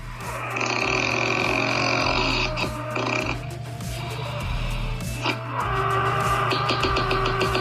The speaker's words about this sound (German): Was für eine Schnarchnase.